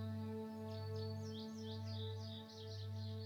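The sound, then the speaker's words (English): Soft birdsong with quick, repeated chirps and tweets, layered over a steady low humming drone that pulses gently a few times. “Listen to the birdsong as they celebrate their very existence.”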